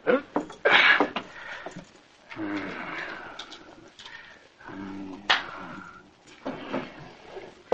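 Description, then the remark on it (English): A desk drawer is pulled open with creaky, squeaking wooden scrapes in two drawn-out pulls, plus a few sharp knocks, moderately loud with no one talking. “Here, in this drawer.”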